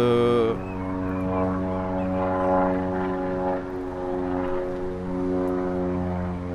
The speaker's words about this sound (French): Connard d'avion, casse-toi, on bosse.